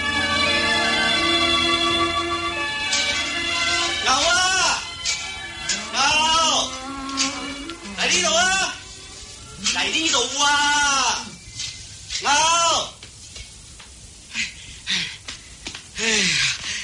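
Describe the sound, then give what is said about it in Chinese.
An old ox lows several times in drawn-out, wavering calls spaced a few seconds apart, fairly loud, following a steady sustained tone at the start; the ox is lying down and will not move when told to go elsewhere. “你只老牛啊，真系鬼灵精噶、啊！”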